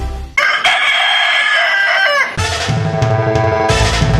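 A rooster crows loudly, one long drawn-out call with a harmonic, strained tone, followed immediately by a second crow overlapping a deeper background rumble.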